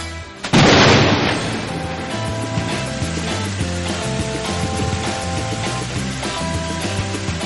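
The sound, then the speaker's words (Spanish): A sudden loud thunderclap sound effect, not real thunder, played on the radio show Buenos días, Madrid, bursts in after a brief moment, then rolls into a long, steady rumble that lingers for several seconds, with music-like tones running underneath. “Esos truenos que escuchan de fondo no son, no corresponden a la realidad.”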